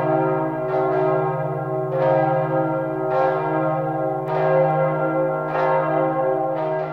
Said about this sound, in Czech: Zaposlouchal jsem se do zvuku zvonů a každým úderem jakoby ke mně hovořila nějaká tajemná legenda.